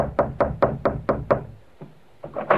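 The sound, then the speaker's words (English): Six firm knocks on a door in a quick, even rhythm, followed by a pause and a couple of softer thuds, fairly loud with no voices; the Falcon and his companions knocking on a door in The Falcon adventures. “Now we find the Falcon, Charlie, and Vince knocking on the door of the snake in his own personal Garden of Eden.”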